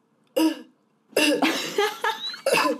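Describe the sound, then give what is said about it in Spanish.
A loud sneeze followed by a longer strained burst and one more sharp sneeze, explosive bursts separated by brief pauses with no talking. “Y los estornudos. Horribles.”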